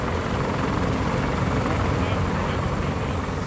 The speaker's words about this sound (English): In these exercises, there's a huge amount of activity. You've got Marines taking off in helicopters, clattering away into the jungle. Some of them are carrying ultralight vehicles that will act as their mobile command post.